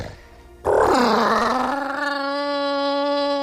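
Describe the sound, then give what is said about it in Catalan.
After a moment of quiet, a loud tyrannosaurus roar bursts in inside a studio, harsh and raspy at first, then settles into a long, steady, tonal howl that holds its pitch for about three seconds. “com pot ser que sempre hagis d'entrar els tiranosaurus a dins l'estudi”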